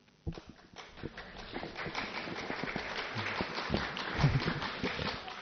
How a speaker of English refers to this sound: Very good. I've got one person clapping. Ah, so kind of you. And she clapped from stillness.